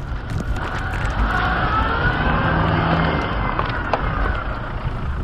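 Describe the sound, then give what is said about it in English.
A car engine revs hard while reversing up a rough road, the car slipping then gripping as rocks and wood shoot up around it: a loud, continuous roar with a strained whine rising and falling over about five seconds, and no voices. “I gun it, reverse, with rocks and wood shooting up all around me.”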